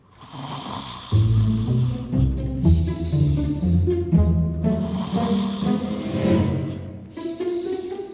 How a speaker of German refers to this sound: Mama schnarchte leise vor sich hin.